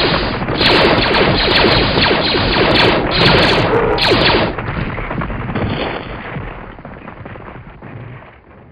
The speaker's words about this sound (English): Now, where's that blaster fire coming from? It's hitting that ledge!